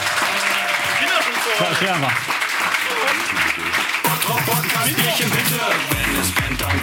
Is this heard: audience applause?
yes